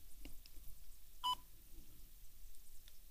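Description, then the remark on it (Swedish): A single short, bright keypad tone of a phone being dialed to call the Swedish speaking clock, Fröken Ur, surrounded by a few faint clicks and a low steady hiss. Nobody speaks. “Ska vi se om ni kan höra när jag slår numret här.”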